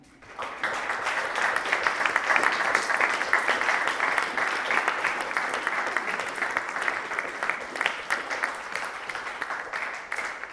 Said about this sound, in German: Ihr wolltet mich jetzt schon zum Abschluss klatschen, also machen wir das jetzt. So, ja.